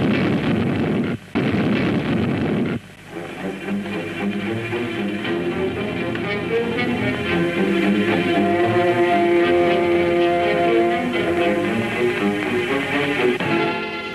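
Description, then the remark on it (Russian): A loud, roaring explosion bursts out for a few seconds, then fades into a sustained low rumble layered with steady droning tones, with no voices. It is a fuel tank blown up by children at night, setting off a fire, in the film Rome, Open City. “Ночь. Взрыв. Дети взорвали резервуар с горючим.”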